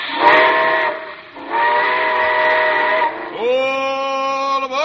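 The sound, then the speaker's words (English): A loud steam train whistle blows in three long harmonic blasts as the train departs, the last rising in pitch as it starts, with a steady hiss of steam underneath and no voices. “Well, it looks as though we're ready to pull out.”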